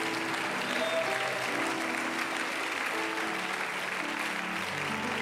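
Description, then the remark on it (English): An audience at a church service claps hands to the Lord in a steady, dense wash of applause for several seconds, with faint held tones from an organ or voices sustained underneath. “Now clap your hands to the Lord.”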